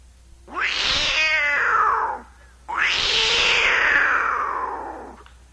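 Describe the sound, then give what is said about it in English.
A voice imitates the call of a lynx, a wildcat: two long, loud, wailing yowls, the first rising then breaking, the second longer and sliding down before fading. “Now, in the park or zoos, you might see this thing, and they call it a lynx.”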